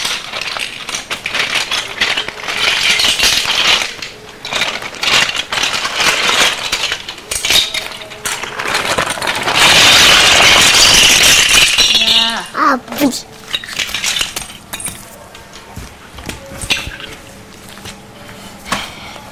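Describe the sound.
Plastic Lego bricks clatter and click as they are handled during play, a steady jumble of small sharp taps that swells into a loud, dense rattling burst midway, with voices now and then.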